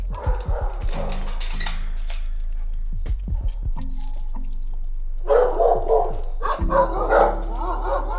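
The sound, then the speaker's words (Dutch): Several lost, surrendered or confiscated dogs bark and yip in short bursts, mixed with metallic rattling and jangling, with a steady low hum underneath. “Koen werkt dus met verloren, afgestaan of in beslag genomen honden.”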